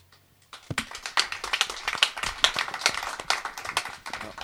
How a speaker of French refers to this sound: Vous noterez que nous n'applaudissons qu'après la traduction.